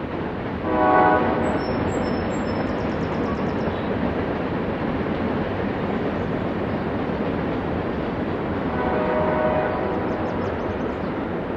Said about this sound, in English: These days, only the Amtrak Cardinal might stop at the Thurmond Depot. All the other trains are rolling through the town.